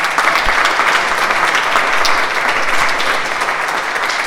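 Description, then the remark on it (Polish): Steady applause from a crowd for two athletes back from the World Championships, where both reached final A and placed fifth, a dense wash of many hands clapping at a constant loud level throughout, with no voices standing out. “Brawa dla nich.”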